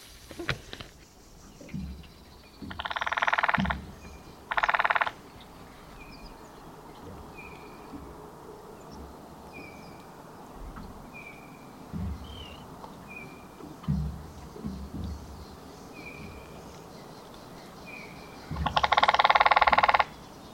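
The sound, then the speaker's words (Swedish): A lesser spotted woodpecker drums in Sweden in three fairly loud, rapid rattling bursts, two close together near the start and one at the end, while faint bird calls and soft outdoor ambience carry on between them. “Kan vi inte bara lyssna lite på mindre hackspettstrumningen då?”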